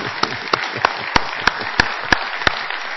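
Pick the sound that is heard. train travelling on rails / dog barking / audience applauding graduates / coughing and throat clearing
audience applauding graduates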